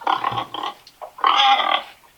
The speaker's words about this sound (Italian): I maiali.